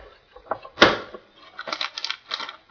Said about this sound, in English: Make sure the lever is properly locked by pushing it down until it snaps home with a click.